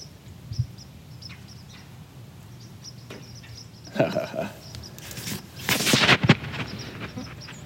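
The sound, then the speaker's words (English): A red-bellied woodpecker gives a couple of loud, harsh rolling calls partway through and near the end, with faint chirps and outdoor ambience filling the gaps. “Do that again, …. Or Woodpecker.”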